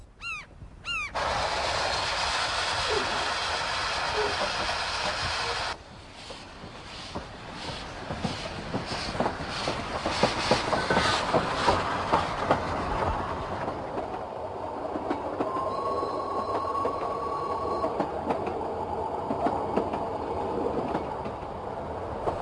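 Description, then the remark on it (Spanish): An old steam train connecting the pier with Gripsholm Castle at Marifred on Lake Mälaren, Sweden, rumbles along the rails with a steady, loud rushing hiss and rhythmic clickety-clack, joined later by a sustained whistle-like tone; no one speaks. “Un viejo tren de vapor conecta el muelle con el castillo de Gripsholm.”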